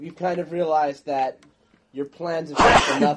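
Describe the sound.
A single sharp sneeze bursts out loud partway through, cutting into a man's ongoing talk, which resumes right after it.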